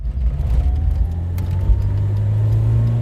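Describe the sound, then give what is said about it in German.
A car engine hums steadily with a deep rumble, its pitch rising slightly as the vehicle pulls away and keeps driving toward Weißwasser, with no voices. “Wir steigen ins Auto und fahren nach Weißwasser, dem gewaltigen Braunkohletagebau, dann weiter nach Norden.”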